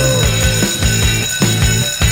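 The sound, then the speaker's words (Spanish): A loud electric school bell rings continuously, a dense metallic clatter with steady rapid pulsing, alone with no voices, signalling the return to the classroom. “Suena el timbre y volvemos aquí a la sala de clases de la Academia de Emprendedores”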